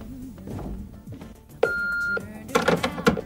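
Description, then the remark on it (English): A single flat electronic beep from an answering machine, clear and steady for about half a second, with low background murmur before it and a brief burst of voice right after. “Oh, an answer phone.”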